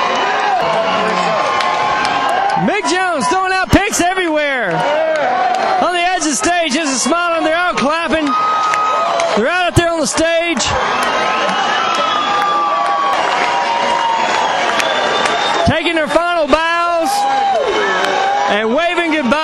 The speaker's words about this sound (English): What a show tonight at the Wild Horse Saloon. Another packed house, man. Another packed house. Man, I tell you what, man, they're still screaming for it.